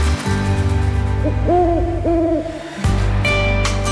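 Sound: owl hooting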